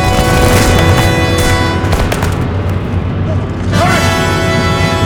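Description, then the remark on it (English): Loud cannon fire booms through a dense, roaring battle din, with a couple of heavy blasts early on and a constant rumble beneath, while indistinct shouting mixes into the chaos. “Second cannon! Fire! Fire!”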